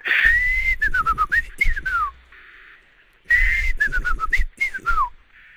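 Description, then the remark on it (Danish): A person whistles an imitation of a chaffinch song twice, each phrase a quick run of descending trills ending in a flourish, clear, with a short pause between the two attempts. “Jeg har altid hørt, at jeg laver en rigtig god bogfinke.”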